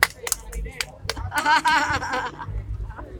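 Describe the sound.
Scattered sharp handclaps from an audience, uneven rather than a steady roar, mixed with raised voices and cheering in the middle before fading into murmur.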